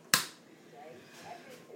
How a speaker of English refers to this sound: Now I'm going to put the kettle on.